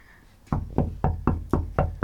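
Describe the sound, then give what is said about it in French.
Seven quick, evenly spaced knocks on a dark brown wooden front door, each a solid, hollow thud, sounding alone after a brief quiet moment with no voices. “Vas-y, toque, parce qu'elle est là.”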